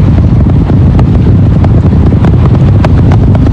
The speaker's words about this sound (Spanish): Al bajar un poco la potencia, el cohete atraviesa esta zona crítica con mayor seguridad. Como vibraciones, eso es lo que uno escucha, ¿no? Y los motores están aumentando su fuerza de nuevo para continuar el ascenso hacia el espacio.